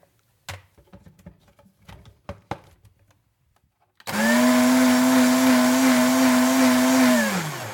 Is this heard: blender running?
yes